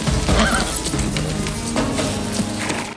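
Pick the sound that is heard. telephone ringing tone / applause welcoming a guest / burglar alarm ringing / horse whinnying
horse whinnying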